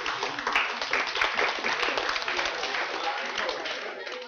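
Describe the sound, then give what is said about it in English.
An audience applauds with steady, dense clapping that holds at an even level for several seconds, a bright crackle of many hands with no pauses. “You're clapping, but he failed.”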